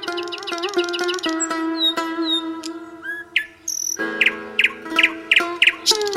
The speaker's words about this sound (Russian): Слышат шах и визирь, как в саду поют соловьи, как благоухают невиданные цветы, как шелестят листьями деревья.